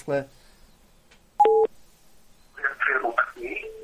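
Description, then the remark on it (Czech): A single short, loud telephone tone, a steady two-pitch beep lasting a fraction of a second, sounds during a call transfer, with a voice talking briefly before it and again afterward. “Takže dobrý, jste ve střípkách rovnou, jsem vás přepojil.”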